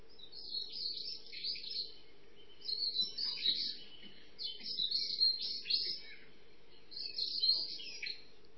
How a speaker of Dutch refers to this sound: De merel. Een van de eerste vogels die kunnen horen zingen. Hoe mooi na zo'n stille periode van de winter dat de lente dan weer aanbreekt. De zangtijd wordt weer gehoord.